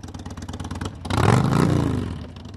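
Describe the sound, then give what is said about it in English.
Several motorcycles of a biker group rumble and grow louder as they approach, almost in formation, over the crest of a hill on the road to a memorial. The throaty roar swells to a peak, with a fast pulsing idle beneath before the surge. “Their motorcycles appear almost in formation, coming over the crest of the hill on the road to the memorial.”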